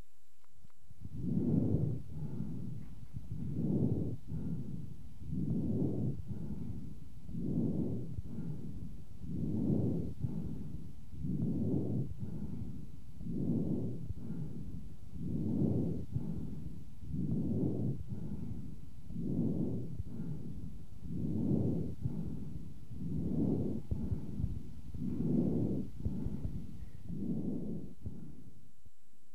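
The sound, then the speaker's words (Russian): Harsh breath sounds of a patient with chronic bronchitis heard through a stethoscope: a steady rhythm of about seventeen loud, coarse inhale-exhale cycles, muffled, with no talking. “Прослушайте жесткое дыхание, зарегистрированное у больного с хроническим бронхитом.”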